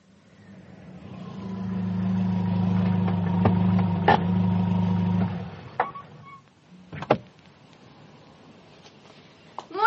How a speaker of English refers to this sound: Oh, is that Sir Marcus's car? Aye. I've just been changing the oil for it.